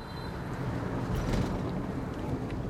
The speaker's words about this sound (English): It's mid-morning. A light rain is falling over Hanoi. The car I'm in weaves through chaotic traffic.